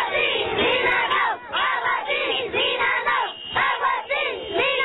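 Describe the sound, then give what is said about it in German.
A large crowd of local residents in Cajamarca, in the Andes, chants protest slogans against a planned gold mine ("Water yes, mine no") in loud, rhythmic unison, the shouted phrases repeating in a steady cadence with brief dips between them. “Wasser ja, Mine nein, schallt der Protest seit Monaten durch die Gebirgsgegend.”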